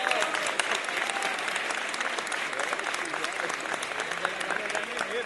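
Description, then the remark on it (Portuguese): Steady audience applause for the composers of a samba in very cold weather fills the whole stretch, a dense crackle of many hands clapping at an even level without pauses, with a faint murmur of voices mixed in. “Oh, mas vamos aplaudir os compositores.”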